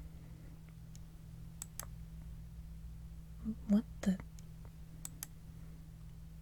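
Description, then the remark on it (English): Scattered, quiet computer mouse and keyboard clicks as someone checks that the keyboard and mouse still work after being knocked off a desk, a handful of sharp taps spaced irregularly over a low steady hum, with a brief muttered exclamation in the middle. “I'll just make sure the keyboard and mouse are fine after getting knocked off a desk.”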